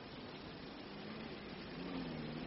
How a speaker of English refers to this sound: just passed us in the police car. Did you notice?